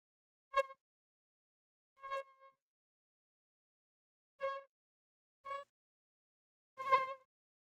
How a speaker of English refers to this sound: Why does the mosquito's whine, made by the rapid flapping of their wings, trigger such feelings of irritation and repulsion?